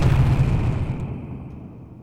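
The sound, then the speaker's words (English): A single booming explosion, loud and deep, its low rumble fading slowly over about two seconds with no voices present. “I expect to see an explosion.”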